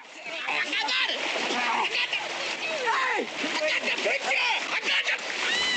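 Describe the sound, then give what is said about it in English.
Water splashes and churns loudly and steadily as a man leaps into a lake after a ranger who was flung into the water, while voices shout and call out over the commotion. “Clyde leaps into the lake after the ranger he flung into the water.”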